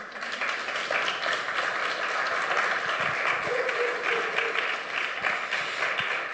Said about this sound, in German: Und ich darf mal zwei ganz liebe Jungs, die letztes Jahr auch dabei waren, jetzt nach vorne bitten mit einem Applaus.